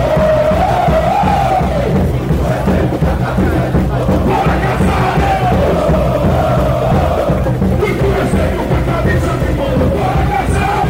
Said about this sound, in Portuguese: O anúncio da decisão do Conselho Deliberativo, que foi feito por volta das 10h30 da noite de sexta-feira, fez com que a torcida cantasse ainda mais alto, mas dessa vez em comemoração.